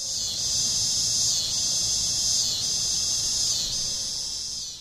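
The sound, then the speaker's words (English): A loud, continuous buzzing drone of cicadas singing in trees in summer fills the air, pulsing in slow waves roughly every second, steady with no voices. “Let's get back to cicadas singing their love song in trees and appreciate how that enriches our summer.”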